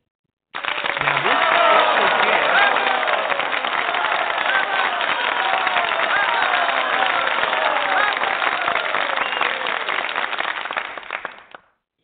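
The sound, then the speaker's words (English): A burst of crowd applause, dense and steady, with many hands clapping at once for about eleven seconds before cutting off abruptly. Faint voices and cheers mix into the clapping. “I know that was deserving of applause.”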